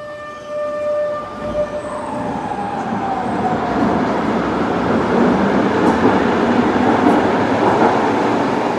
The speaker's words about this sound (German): Es lärmt immer noch gewaltig, wenn ein Tram in eine der 3 Tunnelhaltestellen einfährt oder dort wieder startet.